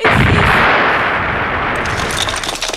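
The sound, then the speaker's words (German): A loud, booming explosion blows away half of a dungeon wall, then a dense roar of crumbling, crackling debris rumbles on for a few seconds before slowly thinning out. No voices. “Plötzlich kracht und donnert es. Die halbe Wand des Kerkers fliegt weg”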